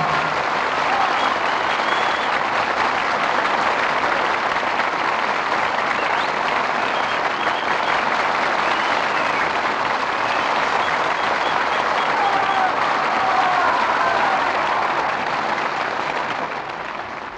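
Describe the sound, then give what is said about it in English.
Sustained applause from a large audience after a performance of the Jolson story, calling Al Jolson, Evelyn Keyes, William Demarest and Ludwig Donath back to the footlights: a dense steady roar of clapping that holds at a loud, even level for over fifteen seconds before tapering slightly at the end. “Thanks to Al Jolson, Evelyn Keyes, William Demarest, and Ludwig Donath, who returned to the footlights in response to your applause.”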